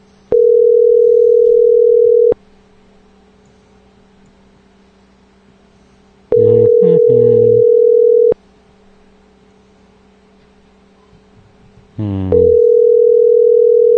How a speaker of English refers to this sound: Three damn people downstairs. Nobody can answer the phone.